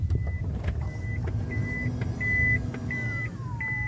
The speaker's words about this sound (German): Genau, die elektrischen Seitentüren öffnen sich und geben den Raum wohl zum wichtigsten dieses Autos frei, die zweite Sitzreihe.